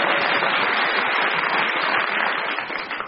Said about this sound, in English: Give her a no, she lost. Don't give her any applause. Give the other three applause.